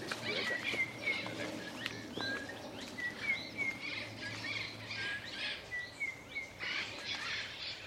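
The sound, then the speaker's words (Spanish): Parrots calling in a steady stream of short, sharp squawks and chirps as they start their day and leave their nests, flying in pairs, several birds overlapping, with a faint low rumble underneath and no voices. “Los loros ya han empezado la rutina de su día y empiezan a salir de sus nidos.”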